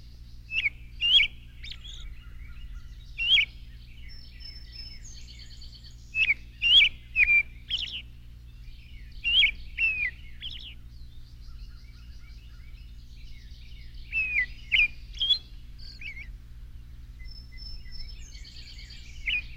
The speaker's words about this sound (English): Their nests hang down 10 feet or more from high branches like long bags. Many families of orioles may live in the same nest. Now we are listening to the oriole.